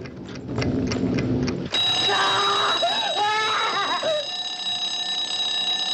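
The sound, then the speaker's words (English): Steady ticking gives way to a loud, continuous ringing from an alarm clock in a coat pocket. The ringing is shrill and persists to the end, with a brief vocal cry overlapping it midway. “As Bean cowers on the floor, Stevens calmly walks out from his hiding place, takes out an alarm clock from one of the coat pockets, and switches it off.”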